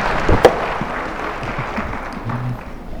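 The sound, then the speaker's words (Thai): An audience claps to welcome a speaker, steadily for about three seconds, a dense, even patter of many hands with one sharper clap near the start, then it begins to thin out at the end. “ขอเสียงปรบมือและต้อนรับนะคะ”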